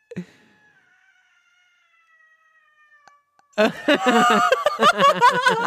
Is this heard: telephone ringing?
no